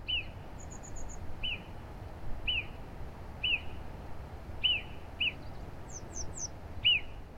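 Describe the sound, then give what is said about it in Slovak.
A marmot whistling in the Tatra mountains: sharp, short high-pitched calls repeated roughly once a second, about eight in all, over a steady low rushing background, with a few faint, higher chirps mixed in. “A mne sa asi najviac páči svišť. A to jeho hvízdanie.”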